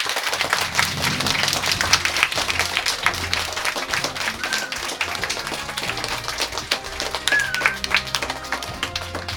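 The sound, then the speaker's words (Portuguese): A crowd of third-year students at a school applauds steadily, a dense wash of many overlapping claps at a fairly loud, even level throughout, with no one speaking over it. “Moitas gracias e recibe estes aplausos de todo o alumnado do terceiro.”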